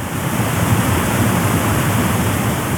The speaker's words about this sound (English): This is the waterfall sound story.